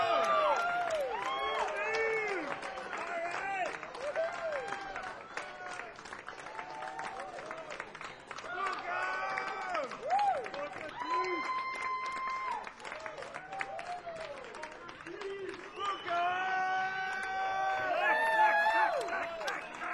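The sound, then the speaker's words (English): An audience at the Dakota cheers and applauds for the band, dense clapping mixed with whoops and shouted voices, staying loud throughout and swelling slightly toward the end. “Would you give us some noise for …?”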